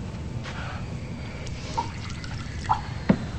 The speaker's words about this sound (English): Catherine walks over to the dresser and refills her glass.